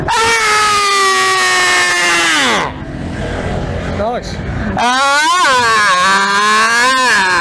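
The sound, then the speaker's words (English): A person screams loudly in another person's face in two long, strained bursts with a rough, noisy pause between them, the pitch bending up and down as the voice strains. “You just screamed in my face, didn't you?”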